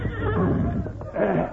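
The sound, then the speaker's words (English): A horse waiting outside neighs loudly, a wavering whinny that dips briefly in the middle before surging again, with faint background noise beneath it. “Get you to my horse outside.”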